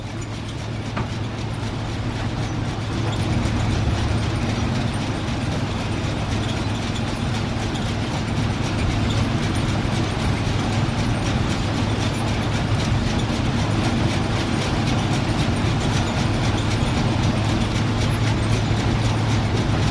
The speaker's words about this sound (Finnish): Tämä on vesisahan raamin sahausääntä. No tämä on varmasti ihan samanlaista kuunneltavaa.